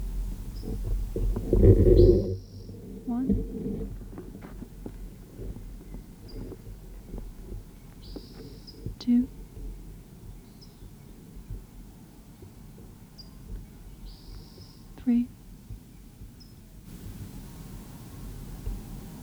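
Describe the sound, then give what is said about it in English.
A bird sings brief, high whistled phrases that repeat every few seconds at 9:15 a.m., on the west side of the road leading north out of the northern end of a picnic area, fairly faint over a steady low rumble of wind-like background noise, with a loud thump near the start. “The bird was on the west side of the road, leading north out of the picnic area.”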